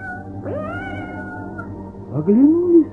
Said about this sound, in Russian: Как стали какованя с Даренкой из-за воду выходить, слышат, мяукает кто-то сзади.